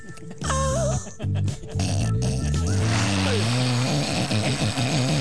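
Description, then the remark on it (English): A person loudly imitates snoring, with exaggerated nasal, grunting snorts that start in short bursts with a brief squeal, then run into one long, rumbling, continuous snore. “It always ends in snoring.”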